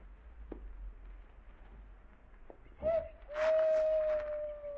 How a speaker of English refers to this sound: I'm just listening. Did you hear that owl? Yeah. Remember hearing it a ways back? Well, yeah, I guess. What's wrong with the owl hooting?